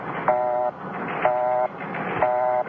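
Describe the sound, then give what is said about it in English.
A telephone busy signal heard when calling someone back: three steady, buzzy mid-pitched tone bursts, each about half a second long, repeating at an even pace over a low hiss. “Okay, so it's a busy signal.”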